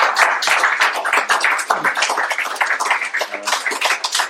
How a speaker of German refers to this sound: Auch dafür sei Gott die Ehre. Der Applaus gebührt wirklich, oder die Ehre gebührt ihm, nicht mir.